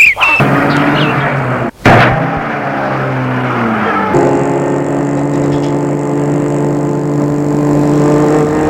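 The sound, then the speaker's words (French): A car engine cuts out briefly, then roars back to life and settles into a loud, steady hum as the vehicle pulls away and keeps driving, with no voices. “et fait entrer dans le siège arrière et met la voiture en route.”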